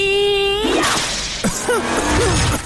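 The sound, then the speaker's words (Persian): A sustained whining tone gives way to two sharp whip cracks about half a second apart, followed by a few swooping, voice-like wails that trail off. “آره بذار من اون شلاقمو بیارم.”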